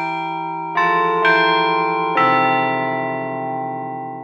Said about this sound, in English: Thank you for auditioning the Chime Master Carillon. The Chime Master Carillon features state-of-the-art digital recordings of actual bells.